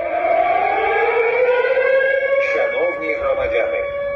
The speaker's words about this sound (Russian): Так в Одесі звучить сигнал воздушної тривоги.